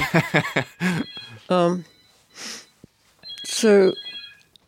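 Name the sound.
mobile phone ringing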